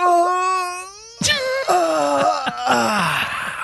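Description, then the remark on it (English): A person lets out an exaggerated, drawn-out fake yawn, a long groaning vocal tone that breaks off and resumes in wavering, sliding moans, fairly loud with no other talk. “And then he goes, oh, I can't do a fake yawn.”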